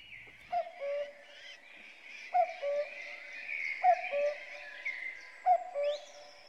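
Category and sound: bird, cuckoo calling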